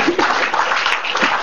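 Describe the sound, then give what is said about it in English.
A crowd claps steadily, a dense, continuous patter of many hands with no clear individual beats, filling the whole stretch at a fairly loud, even level. “If you want to clap, clap.”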